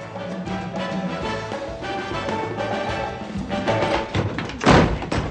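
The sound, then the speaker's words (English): A dense, steady wash of layered sound runs along until a single loud, heavy crash breaks through near the end as two people crash through the door of an apartment on their way to bed, then a brief rumbling tail. “That last sound, by the way, is the two of them crashing through the door of her apartment on their way to bed.”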